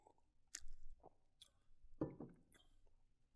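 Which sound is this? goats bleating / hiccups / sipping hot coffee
sipping hot coffee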